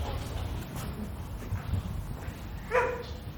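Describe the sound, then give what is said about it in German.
A mixed-breed dog, Paul, the agency dog at an agency office, gives one short, high whimpering yelp near the end over a steady low rumble of background noise; otherwise the dog stays quiet. “Das ist Agenturhund Paul, ist ein ganz lieber Mischling.”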